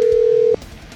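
A single loud, steady telephone tone sounds for about half a second as a call is placed, then cuts off abruptly, leaving only faint background noise.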